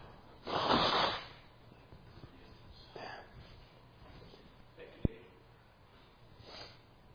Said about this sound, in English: I'm going to blow my nose for a second.